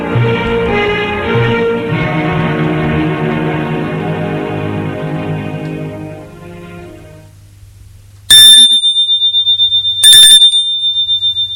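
Music fades out, then a doorbell rings twice at an apartment door in short, loud, rattling electric bursts with a bright buzzing tone, separated by a brief pause.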